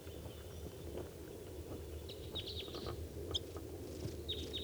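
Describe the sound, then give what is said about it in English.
Several short, high chirping calls from a wild bird, a female perched at the top of a tall spruce above a truck, break out in scattered bursts at 7:59 a.m. over a steady low engine-like rumble, the calls fairly faint. “And there's a wild bird coming in.”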